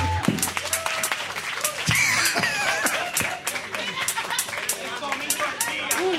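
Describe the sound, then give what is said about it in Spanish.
An audience applauds a joke about hentai with dense, steady clapping that fills the whole stretch, while scattered voices and a few cheers rise through the noise. “Yo creo que esta es la primera vez en la historia que la gente ha aplaudido por hentai.”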